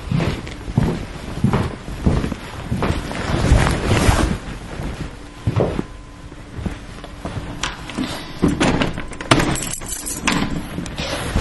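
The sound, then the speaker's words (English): Keys jingle and rattle in a series of irregular metallic clicks as the front door of a bungalow is locked, with a low rumbling buffet of wind underneath throughout. “And also lock my front door.”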